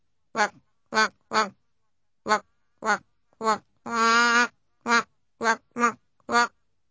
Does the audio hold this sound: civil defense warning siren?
no